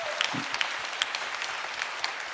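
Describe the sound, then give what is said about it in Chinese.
An audience at a church service claps together to give glory to God, a steady, dense patter of many hands, a continuous crackling wash with a few sharper claps standing out, and no talking. “愿意的拍手把荣耀归给主好不好？”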